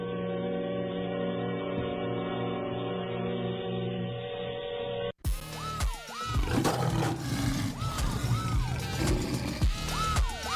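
A loud, rumbling animal roar, like a big cat, swells and repeats over several seconds, following a stretch of muffled, old-sounding music with no talking.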